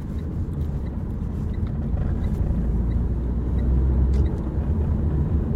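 A steady, low engine rumble of a car rolling slowly as it circles the parking lot of a floral park at night, continuous throughout with a slight swell toward the end, with faint background hiss and no voices.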